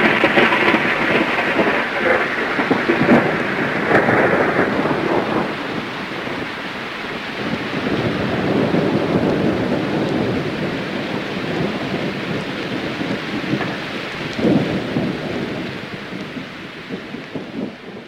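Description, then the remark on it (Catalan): A thunderstorm rumbles on with steady rain and long, rolling thunder that swells and fades, a deep roar surging again near the end. No voices, just the storm all the way through. “La tempesta. Bum, ai, quin tro, quina por, tot és negre i es fa fosc.”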